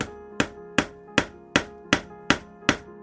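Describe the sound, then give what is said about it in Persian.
A tinsmith's hammer taps on copper in a steady, even rhythm, seven sharp metallic strikes, each leaving a bright ringing tone that lingers between blows. No voices. “روزگاری که ظروف و مسی در هر خانه ای بودند، صدای چک چک چکش های سفیدگر موسیقی متن کوچه ها بود.”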